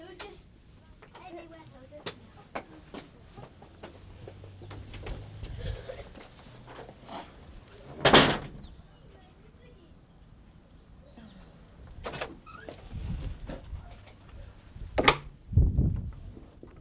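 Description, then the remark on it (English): A door being unlocked with a key and opened: scattered clicks and rattles, then sharper clunks of the latch and the door moving, with light background shuffling. “Right, colonel, open the door, please.”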